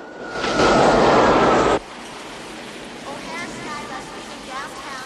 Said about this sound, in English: A plane lands at an airport.